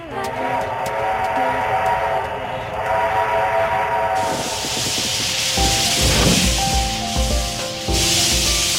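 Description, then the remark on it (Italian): An old steam train runs with a loud continuous hiss and rumble; about halfway through a broad burst of steam takes over, while deep chuffing pulses thud underneath. “Senti questo suono, è il famoso, ormai famoso, treno a vapore dell'ombelico del mondo.”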